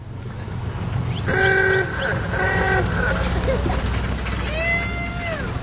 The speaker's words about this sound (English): No, I hear a tractor.